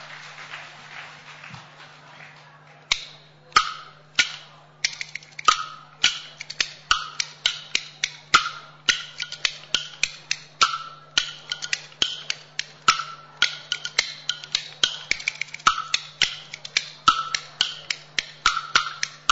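Bamboo clappers (kuaiban) clack in a brisk, steady rhythm at the start of a stage performance of the kuaibanshu piece 'Dan Dao Hui', sharp wooden clicks coming quickly, with a few quieter taps at the start before the pattern settles in. No one speaks.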